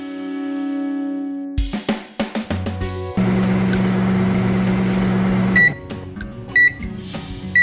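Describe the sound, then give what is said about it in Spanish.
A microwave oven heating food hums steadily with a low electrical drone, preceded by clicks and button beeps, then a few sharp beeps as it finishes; no one speaks. “No puedes poner ese plástico en el microondas.”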